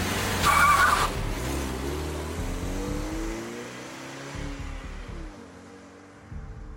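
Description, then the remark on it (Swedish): A car engine revs hard with a brief tire squeal as a man who has left a bank jumps in and drives off, its engine tone shifting through gears as it pulls away and fades slightly. “Han hoppar in i en bil och åker vidare.”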